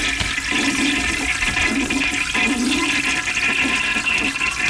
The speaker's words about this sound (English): On this date in 1863, Thomas Crapper unveiled his invention, the one-piece pedestal flushing toilet. There it is.